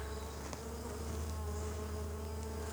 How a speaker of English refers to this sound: Plenty of bees here tending to this one.